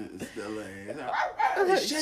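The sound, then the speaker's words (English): A dog barks and yelps in a quick, high-pitched, loud burst, its cries rising and bending in pitch over about two seconds. “Shut the damn dog.”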